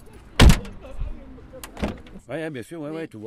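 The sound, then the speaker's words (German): The door of a black taxi van thuds shut with a heavy slam in La Monnaie, followed by a couple of softer clunks and rattles, then a person starts talking over the quiet van interior. “… holt mich mit seinem schwarzen Taxi-Van in La Monnaie ab.”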